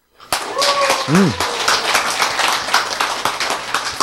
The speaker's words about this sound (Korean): 박수.